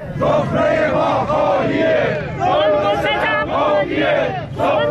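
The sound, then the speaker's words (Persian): A large crowd of protesting retirees chants loudly in unison at a protest over pensions in Iran, held in Tehran in front of parliament and in other large cities, voices rising and falling in rhythmic bursts of shouted slogans, with brief dips between phrases and a dense, continuous roar of many people. “دیروز اینجا بازنشستگان معترض در تهران مقابل مجلس و در شهرهای بزرگ دیگر ایران در تجمعاتی اعتراضی شرکت کردند.”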